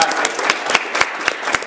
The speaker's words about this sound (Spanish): Vas a sentir bien, así que quiero que se den un fuerte aplauso. Y luego denme un fuerte aplauso a mí para que yo me anime. A ver si me oyen.